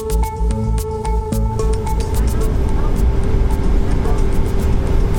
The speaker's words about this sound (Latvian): Tikmēr Boeing lidmašīna, kas mani nogādā pāri Atlantijas okeānam, pēc 9 stundām nolaidās Miami.